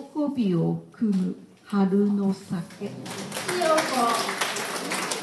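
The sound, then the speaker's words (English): At the monthly meeting of Tokyo's biggest Senryu poetry club, voices talk for a few seconds, then a quick round of audience applause for a finely executed turn of phrase breaks out, a dense patter of many hands clapping that continues under the chatter until the end. “Every once in a while, a buzz of admiring murmurs, and for a particularly finely executed turn of phrase, a quick round of applause.”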